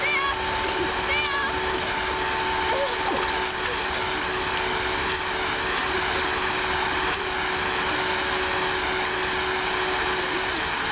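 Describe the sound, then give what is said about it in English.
Water splashes and sloshes continuously as a man lifts a person out of the water in an open manhole onto the street, a dense churning wash with a steady tonal hum in the background. “He picks Sam up out of the water and onto the street.”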